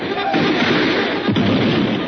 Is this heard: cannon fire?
yes